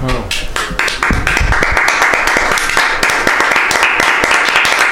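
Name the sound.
studio audience applause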